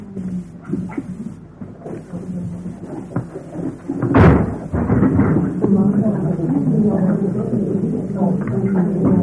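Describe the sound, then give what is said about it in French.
A window is opened with a single sharp clunk partway through, after which louder outdoor background noise flows in; voices murmur throughout, both before and after. “voulez-vous qu'on ouvre la fenêtre?”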